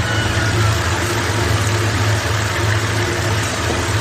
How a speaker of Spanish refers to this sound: Es el funicular, ¿no? Y el agua que se escucha. Ese funicular subiendo, sí, sí. Pues mira, es una cosa... Sí, este es el agua que va descargando. Pues mira, es un genio de 1888, sube 150 metros a una colina